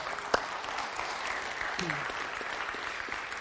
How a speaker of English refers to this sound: So, a big amen and a big round of applause.